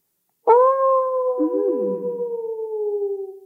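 wolves howling

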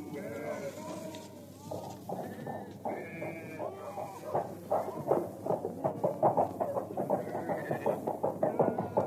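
sheep bleating

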